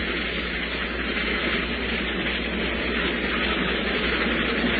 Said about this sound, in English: That's it again, Sheriff. That train is coming again.